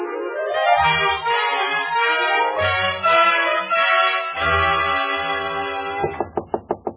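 Orchestral music plays for several seconds, then stops and a quick series of about six sharp, evenly spaced knocks sounds on a door.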